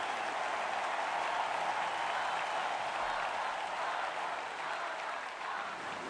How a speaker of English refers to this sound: Luciano applauds.